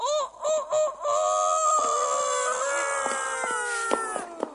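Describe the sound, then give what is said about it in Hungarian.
A person crows like a rooster, loud: a few short choppy notes, then a long, strained, wavering cock-a-doodle-doo held for several seconds. “Tehát guggolás. És kukorékolás.”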